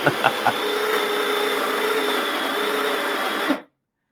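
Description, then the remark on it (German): A coffee grinder grinds 17 grams of coffee beans, whirring loudly and steadily, with a few sharp crackles as the beans first catch, then runs as a constant harsh mechanical drone for about three and a half seconds before cutting off abruptly. “dass es richtig den Zuhörern die Ohren rausfliegen, wenn die Mühle mahlt”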